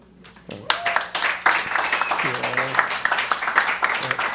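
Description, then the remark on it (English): An audience breaks into loud, sustained applause after a brief quiet start, a dense wash of clapping hands that keeps going steadily, with some voices calling out underneath. “You might not want to clap by the end, so, I'll give you a chance to take it all back.”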